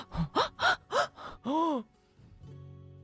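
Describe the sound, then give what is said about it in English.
A crowd at a fairy court gasps in surprise: a quick run of sharp, voiced intakes of breath, then one longer drawn-out gasp, fading into a quiet background hum. Fairly loud, with no speech. “A gasp came from around the fairy court.”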